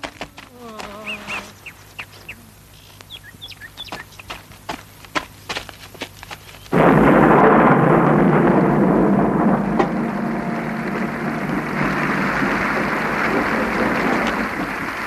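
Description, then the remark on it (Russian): Birds chirp over scattered sharp clicks for several seconds, then a sudden loud rumble of thunder gives way to a dense, steady roar of heavy rain that continues to the end. “Ой, наша девочка попадет под дождь.”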